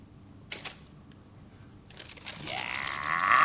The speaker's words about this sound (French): Il froisse et jette l'enveloppe.